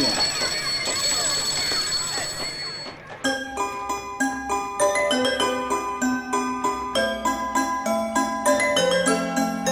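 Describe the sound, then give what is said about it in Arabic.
A school bell rings to call the pupils to class, a bright electronic chime playing a steady tune of clear, ringing notes for several seconds after a short burst of noisy, clattering sound at the start. “لما سمع التلاميذ صوت الجرس يدق توجهوا كلهم إلى الصف”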